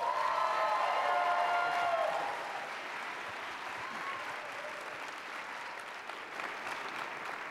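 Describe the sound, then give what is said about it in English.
An audience applauds to welcome the evening's youngest speaker to the stage, with dense, steady clapping that is loudest for the first two seconds, then settles to a slightly softer, continuous patter with a few faint whoops early on. “Coming up next is our youngest speaker tonight, so I want you to give an especially enthusiastic welcome.”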